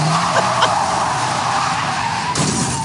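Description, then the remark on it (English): Tires screech loudly in a long, continuous skid, then a sudden harsh burst of noise hits near the end like a crash. No voices. “He crashed two rental cars driving from California to Arizona.”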